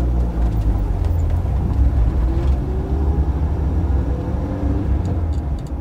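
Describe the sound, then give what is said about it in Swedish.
A car starts off abruptly and drives out of a parking lot, with a steady engine and road rumble that stays at an even loudness throughout, with no voices. “Bilen rivstartar och de kör ut från parkeringen.”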